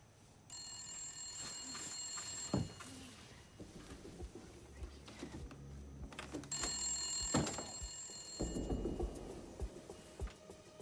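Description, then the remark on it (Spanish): A telephone connected to a tape recorder rings twice, each bright, trilling burst lasting about two seconds with a pause between, with no one talking. It rings on the night of June 24, 1974, as a kidnapper calls the missing girl's mother a year after she disappeared from a campsite in Montana. “Mientras se apresuró hacia el teléfono y la grabadora, esperaba al fin obtener algunas respuestas.”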